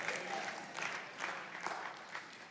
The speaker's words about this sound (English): You clap like you almost believe that.